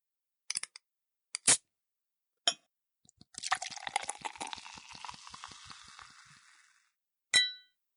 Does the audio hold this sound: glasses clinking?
yes